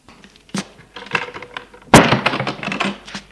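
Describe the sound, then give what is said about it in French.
A man pushes a door shut with a loud thud, preceded by a softer click of the latch and followed by a brief rattling clatter as it settles. “Il ferme la porte.”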